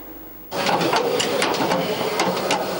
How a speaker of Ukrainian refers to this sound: У цьому цеху збирають нові БТРи та лагодять і модернізують старі танки.